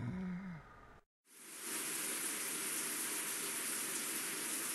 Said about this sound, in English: I feel the soft patter of water on my head. I look up at the small holes that project the only light I can see. Water is coming through, raining on me.